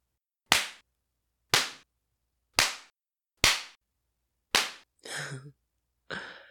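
Five sharp, loud lashes of a belt striking skin land at a steady pace about a second apart, followed by two brief strained vocal cries.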